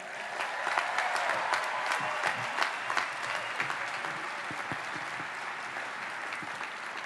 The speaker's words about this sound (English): Not enough applause on The Hangover. That guy's really disappointed me on that.